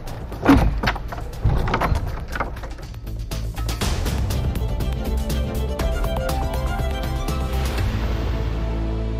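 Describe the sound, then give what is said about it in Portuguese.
The heavy door of the Igreja de Santa Iria da Ribeira in Santarém, a church in an advanced state of decay, swings shut with a few loud wooden knocks and scrapes in the first seconds, then steady music with a low drone takes over for the rest. “Vai voltar a fechar a porta.”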